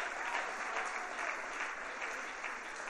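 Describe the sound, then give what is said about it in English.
Steady applause from an audience of about 500 people fills the whole three seconds, a dense wash of many hands clapping at an even loudness, with no voices heard over it. “Thank you for one hand clap out of 500 people.”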